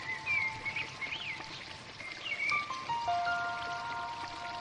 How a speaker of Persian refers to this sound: کمی که جلوتر میریم صدای جریان آب به گوشتون میرسه. باز هم جلوتر بریم تا به رودخونه بزرگ خروشان برسید.